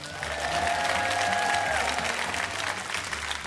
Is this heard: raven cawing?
no